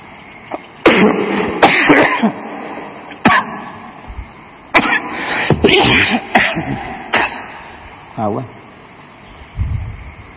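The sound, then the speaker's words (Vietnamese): A coughing fit caused by fluff flying into the throat: repeated harsh, explosive coughs in irregular bursts, mixed with raspy throat clearing and strained breaths, over a faint steady background hum. “Nói mà cái bông nó bay vô họng tôi luôn, thành ra tôi ho.”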